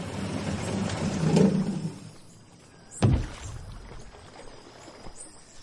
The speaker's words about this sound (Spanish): Nuestro camino no es solo de tierra, sino principalmente de agua, el majestuoso río Putumayo. Y nuestro vehículo es una lancha que abordamos en Puerto Asís. Tras 2 horas en esta lancha, empezamos a ver nuestro destino.